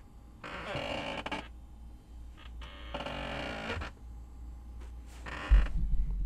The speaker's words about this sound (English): I think this chair's gotten squeakier. I don't know if that was coming through, but I think this chair's gotten squeakier.